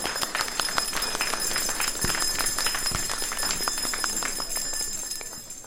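An audience at an Epiphany celebration in Warmontowice applauds the priest and the organizers with dense, steady clapping that holds at an even loudness for several seconds, with no voices over it.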